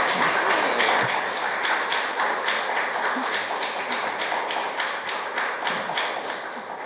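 Audience applause fills the whole stretch, a dense, steady wash of many hands clapping with a faint rhythmic pulse, holding loud throughout and easing slightly toward the end, with no voices.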